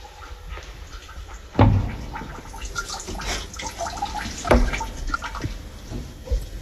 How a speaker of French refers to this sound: Là, les colonnes d'eau, on entend aussi.